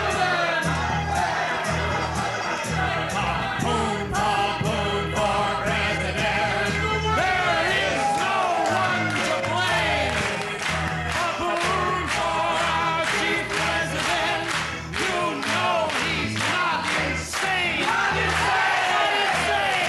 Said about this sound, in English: It's all over now on the convention floor, but the shouting, and George Papoon is the man of the hour.